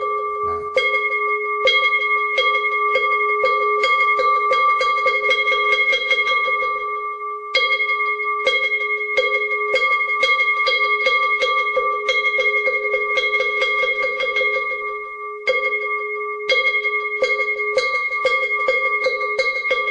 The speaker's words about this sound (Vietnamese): Phật một lễ, và sau đó chúng ta cho ba hồi chuông và mõ.